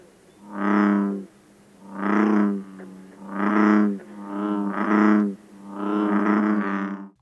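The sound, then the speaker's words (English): Bullfrog calls sound alone in a steady sequence of about five deep, resonant jug-a-rum croaks, each a low, drawn-out drone lasting around a second, fairly loud. “And bullfrogs.”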